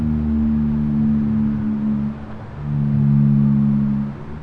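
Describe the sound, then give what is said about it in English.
Two long, deep tonal moans of blue whale calls follow one another with a short gap between them. They are steady and droning, heard alone against a faint underwater hiss. “Like snapping shrimp and blue whales.”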